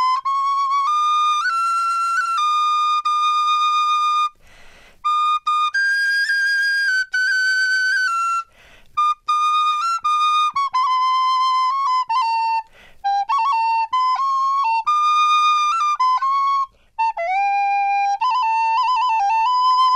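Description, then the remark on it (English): A tin whistle player plays a slow, gentle melody alone: the tune Auron Dorcas, meaning a song of hope, the piece he played at Ground Zero. Its clear pure notes are held long and glide between pitches, with brief pauses between phrases. “And I took out the whistle and played a little lament. And afterwards, a tune called Auron Dorcas, which means a song of hope.”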